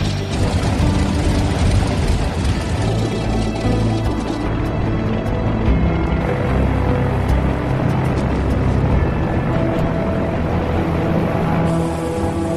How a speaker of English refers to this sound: As Tanker 56 taxis down the runway for its trip to the Boneyard at Red Deer, the era of Buffalo's piston-pounding firefighters is nearly over.